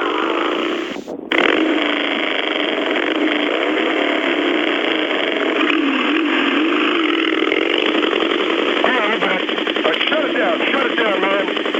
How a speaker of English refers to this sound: Would you guys quit with the motorcycles or something, man? Go someplace?